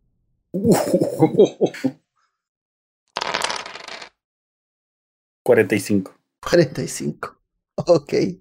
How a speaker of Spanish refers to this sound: Lánzame 8 dados de 10.